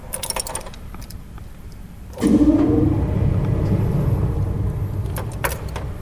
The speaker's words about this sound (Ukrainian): Вот сейчас заработал орган. Сейчас включился мотор. Сейчас воздух подается в его легкие.